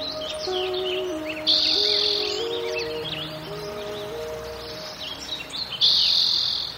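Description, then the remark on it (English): Several birds chirp and trill together in a lively chorus in Sugarloaf, an oak and California buckeye woodland park in California with a stream, with bright high-pitched bursts recurring over a steady background of quieter calls and a faint insect-like hum. “California buckeyes and oaks, as well as insects and frogs and toads and birds, hawks and ducks, woodpeckers and hummingbirds, robins and swallows and jays and warblers and wrens and finches.”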